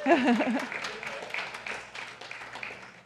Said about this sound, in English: And we all, you're clapping because you know how that feels. Because we all want more of that.